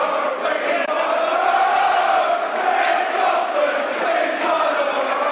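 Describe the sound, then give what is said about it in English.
A football crowd roars in reaction about 35 minutes into the match as player Ben Thompson receives attention, a dense wall of massed voices holding a loud, steady, droning tone for about five seconds without letting up. “That's what the crowd think.”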